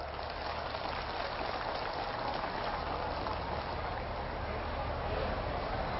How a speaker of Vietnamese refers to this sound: Nếu mà tất cả các quý Phật tử đồng tình với những điều mà tôi vừa nêu đó, để dâng cho một tràng vỗ tay thật lớn.